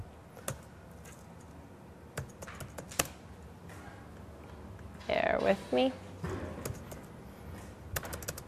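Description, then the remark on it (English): Irregular clicks of typing on a computer keyboard, fairly quiet, with scattered pauses between bursts of keystrokes; a person briefly speaks partway through. “I promise I'm typing something.”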